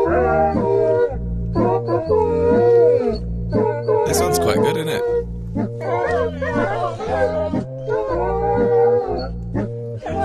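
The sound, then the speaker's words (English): Dogs howl a tune in sustained, wavering notes over a steady bouncing musical accompaniment, loud and continuous throughout, with a person briefly speaking over it. “And now by the ….”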